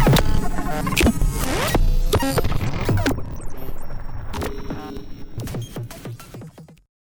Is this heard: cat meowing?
no